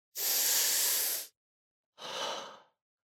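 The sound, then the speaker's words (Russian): Two deep breaths: a long, airy inhale lasting about a second, a brief pause, then a shorter, softer exhale. No talking. “Дышим глубоко.”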